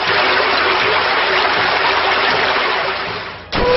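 A loud, steady rush of gushing water fills the whole clip, dipping briefly near the end before surging back in a sharp burst: a video game effect as the creature Hydric uses the water attack Drench on the foe Blazend.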